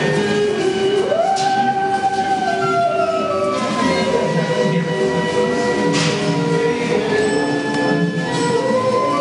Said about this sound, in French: Des fois, elle joue des morceaux spécialement composés pour la scie musicale.